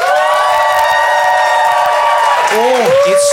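A live debate-show audience, the Phoenix audience, applauds to vote for one side. It is a loud, sustained burst of applause mixed with cheering, steady crowd noise carrying long shrill whoops and whistles that swoop up and down near the end.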